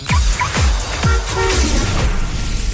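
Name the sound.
car horn honk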